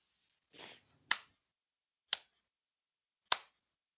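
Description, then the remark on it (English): A slow, deliberate, sarcastic hand clap: three sharp claps spaced about a second apart, with no talking. A brief soft rustle comes just before the first clap. “It's my slow clap for DC Entertainment, DC's cinematic universe, and just not getting their shit together ever.”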